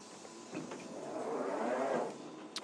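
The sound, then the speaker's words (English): Doors of a District Line underground train slide open at Baron's Court station with a steady mechanical whoosh and hiss that swells and fades over about two seconds, followed by a short sharp click at the end. “Let's have that door, please.”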